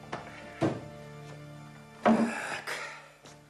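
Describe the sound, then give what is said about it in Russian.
Heavy, irregular pounding on a wooden door in the entryway of a farmstead house, someone banging hard while cursing in a deep voice: about half a dozen dull, booming thuds spread unevenly, some landing in quick pairs, over a low steady hum. “Кто-то сильно колотил в дверь, басовито ругаясь.”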